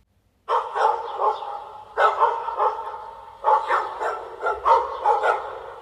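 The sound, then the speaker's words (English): A dog named Barker howls in three long, wavering cries, each lasting over a second with brief pauses between, loud and with no other sounds around. “Barker suddenly started howling and pulling away from Carrie.”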